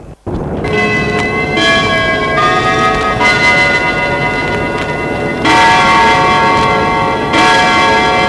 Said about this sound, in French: L'horloge sonna 5 heures.